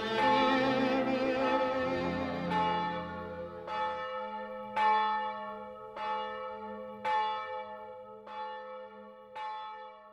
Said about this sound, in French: Les cloches.